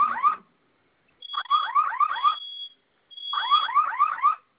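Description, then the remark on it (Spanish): A security system's fire alarm, set off by pressing its two fire buttons together for five seconds, blares in repeated bursts of rapid, sweeping warbling tones with a steady high beep, loud, pausing briefly between bursts. No voices. “Sistema en alarma.”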